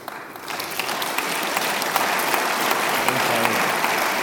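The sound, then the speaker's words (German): Sustained audience applause, a dense steady patter of many hands clapping that swells in the first half second and holds at an even, fairly loud level throughout, with no voices standing out. “Herr Schächter, Sie müssen jetzt den Beifall kontern.”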